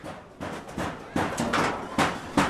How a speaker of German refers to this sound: Dieses Hämmern ist ein Aufschrei.